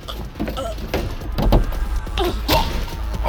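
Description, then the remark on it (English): A person's body is slammed against a stove by a large bearded man during a fight: a couple of heavy, loud thuds with a brief rattling knock, set over a low, steady rumble and with no voices. “The bearded mountain slams me against the stove.”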